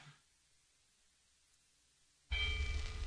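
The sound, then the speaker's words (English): After a couple of seconds of near silence, a church bell suddenly rings out loud at 12 o'clock in the daytime, its bright clanging tone ringing on to the end. “What's that I hear at 12 o'clock in the daytime? Church bell ringing.”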